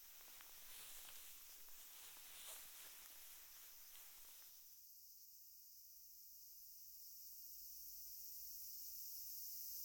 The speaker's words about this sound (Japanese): またセミもうるさくなってきたし、湿地的にもいいんじゃない？